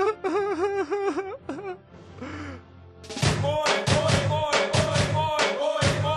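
A man whimpers and cries up close, with wavering, quivering wails, a breathy gasp, then a louder stretch of choppy, rhythmic sobbing bursts.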